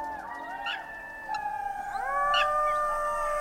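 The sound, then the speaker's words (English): Several jackals howl together in long, overlapping wails that rise and fall in pitch, fairly loud, with no talking. “A year later, Duryodhana burst out of one of the jars and jackals howled.”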